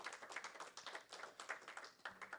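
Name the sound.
audience clapping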